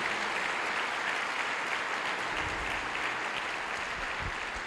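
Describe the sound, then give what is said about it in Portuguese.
An audience applauds the name of Jesus, steadily, a dense wash of many hands clapping at once with no pauses, sustained and fairly loud throughout, with a few low thumps near the end. “Aplauda de novo o nome de Jesus, querido.”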